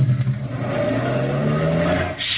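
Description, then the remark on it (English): A truck engine roars, revving steadily with its pitch climbing as the motor works harder, loud and continuous throughout with no voices. “You'll step in front of the truck to unlatch the door, start your motor in gear, and duck.”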